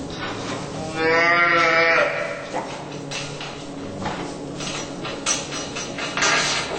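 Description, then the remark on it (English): A mother dairy cow bellows loudly in one long, strained call near the start, in distress after her newborn calf is taken away, followed by fainter lowing and steady clattering noise with no talking. “Many mother cows bellow in distress after their calves are taken.”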